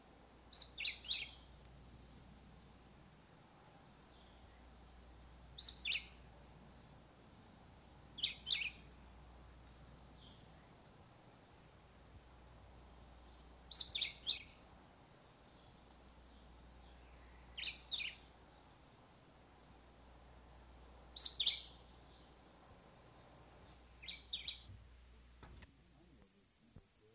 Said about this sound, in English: A coastal mangrove species of southern Florida is the black-whiskered vireo.